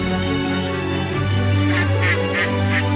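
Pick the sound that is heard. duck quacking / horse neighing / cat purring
duck quacking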